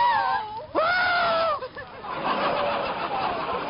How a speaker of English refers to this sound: What are you screaming for? Gee, you scare me, too.